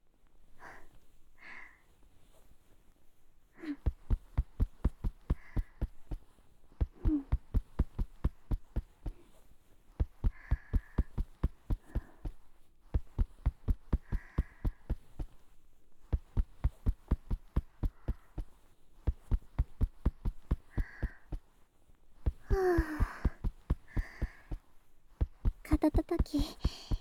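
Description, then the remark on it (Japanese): Rhythmic ASMR shoulder tapping, done for its sound and vibration: quick, steady, muffled thumps in runs of a few seconds separated by brief pauses, with soft breathy sounds in between. “それじゃあ次は肩叩きしていくよ。肩叩くのは音と振動が気持ちいいから ASMR としても人気なの。”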